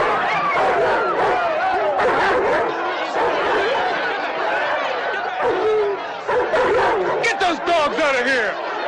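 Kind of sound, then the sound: animal, dogs barking and yipping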